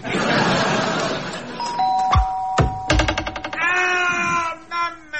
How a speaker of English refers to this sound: That'll be the front door. Oh, maybe that combination doorbell and crossbow invention wasn't one of my best.